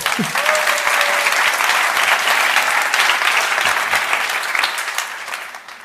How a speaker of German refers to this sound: So, ich freue mich sehr, hier stehen zu dürfen. Erstmal nochmal ein Applaus für Onkel Bernie.